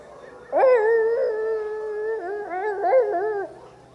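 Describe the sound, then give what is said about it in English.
An audience member at a live show in Florida imitates a baying blue tick hound dog with one long, loud, drawn-out howl lasting about three seconds, its pitch wavering and breaking near the end before it fades out. “I thought there were more blue tick hound dogs in Florida than that.”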